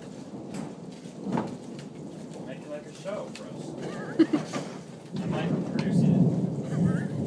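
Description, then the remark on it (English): Steady rain hisses throughout, with low rumbles of thunder rolling underneath and a swell near the end; a faint voice drifts in the background. “What is with the opera and the rain and the”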